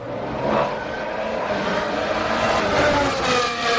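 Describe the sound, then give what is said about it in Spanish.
The engine of Fernando Alonso's new Aston Martin racing car roars steadily, a loud, dense mechanical drone with a slight rise and swell in pitch, with no voices over it. “Así suena el motor del Aston Martin del nuevo coche de Fernando Alonso.”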